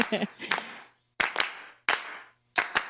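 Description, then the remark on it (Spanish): Sharp, loud hand claps land in quick pairs and singles at a steady pace, each with a short ringing decay, after a brief snatch of voice at the start; the claps are part of a short, simple song arrangement of only voices and claps. “Nada más son voces y con claps y aplausos, no sé si dice aplausos.”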